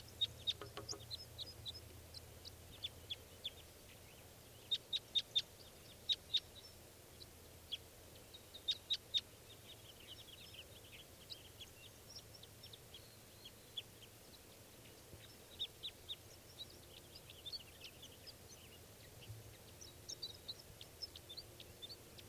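female bird calling

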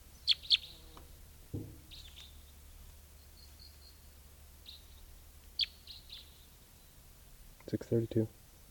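wild male bird singing

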